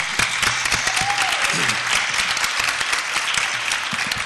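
A crowd claps steadily for several seconds, a dense, even wash of hand claps with no pauses, holding at a fairly loud level throughout, applauding a woman who led Cisco's corporate sponsorship of and attendance at the event.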